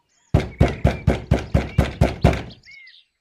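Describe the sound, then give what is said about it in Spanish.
Eight quick, evenly spaced, loud knocks rap on a wooden door, followed by faint bird chirps in the background. “Mientras tanto, el lobo se encaminó directamente a la casa de la abuelita y al llegar llamó a la puerta.”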